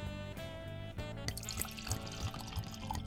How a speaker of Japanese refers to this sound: はい、本日ご用意したワインは、丹波ワイン、京都丹波ピノノワール2020です。 はあ、京丹波ですね。はい、京都の一番北部ですね。 ピノノワールなんですね。はい、ちょっと入れてみたいと思います。